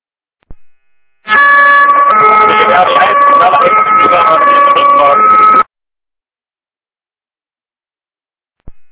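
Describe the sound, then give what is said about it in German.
A loud, steady wailing siren tone sounds for about four seconds, shifting pitch slightly, in the background of a radio transmission, heard through a narrow, radio-like channel before cutting off abruptly. “Entweder über Telefon oder nochmal langsam und deutlich, am besten ohne Sirene im Hintergrund.”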